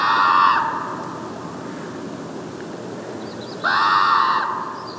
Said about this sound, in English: We were definitely trying to listen for that scream of the common raven. A few minutes later, Sebastianelli stops to tape the calls of the raven, still echoing out over a salt marsh.